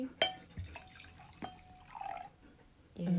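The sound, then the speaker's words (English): Wine pours into nearly empty glasses in short splashes and drips, with a couple of light glassy clinks and a gurgle that rises in pitch as it fills. A voice briefly begins at the end. “Should we pour more wine? Pour more wine for me.”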